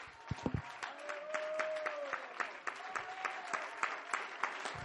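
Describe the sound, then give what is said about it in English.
An audience claps hands to Jesus steadily for about five seconds, a dense, lively patter of many sharp claps, with a held, gently wavering tone rising above it for a moment. “Would somebody clap your hands to Jesus one more time?”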